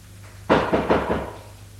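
Four quick, firm knocks on a door in an even rhythm, each a dull, solid rap, followed by a short quiet with no voices.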